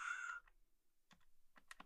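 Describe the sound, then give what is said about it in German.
A short electronic dial tone, then a handful of sharp key presses tapped out in an uneven rhythm as a mobile phone number is dialled, with no talking. “Und habe ich alles richtig getippt?”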